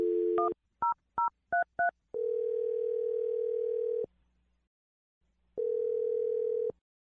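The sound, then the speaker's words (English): A telephone number is dialed on the radio show Brooke and Jeffrey in the Morning: a short dial tone, five quick keypad tone beeps, then two long ringback tones separated by a pause of silence. The sounds are clear, with no talking. “Dial the phone number right now.”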